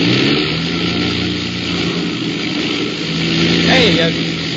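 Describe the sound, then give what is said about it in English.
Loud airplane engines drone continuously, their rumble uneven and faintly sputtering as they misfire, with no break for the whole stretch, on a dark flight running into storms. “And then I noticed the sound of the engines.”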